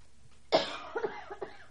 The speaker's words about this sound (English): Try not to cough when he answers the phone.